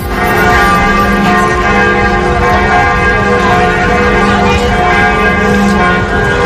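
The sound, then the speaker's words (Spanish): The bells of Notre Dame cathedral in Paris tolling loudly and continuously, rung 88 times in memory of Pope Francis after his death, their deep overlapping peals ringing out with a rich, sustained hum and no speech. “En París, en Notre Dame, las campanas han repicado 88 veces en recuerdo a la figura del Papa.”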